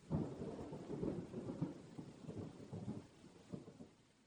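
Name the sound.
rain and thunderstorm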